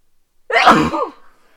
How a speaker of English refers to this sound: Oh, I'm gonna sneeze.